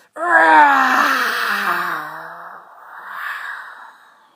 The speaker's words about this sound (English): In fact, let's do it on the next inhale and exhale. Inhaling deep into that stuck energy and release with a big roar.